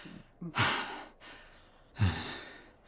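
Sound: exaggerated heavy breathing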